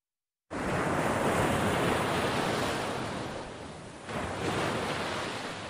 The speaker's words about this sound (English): Waves no longer bring seashells to Ghana's shores. They now dredge up piles of discarded clothes left to rot on the beaches.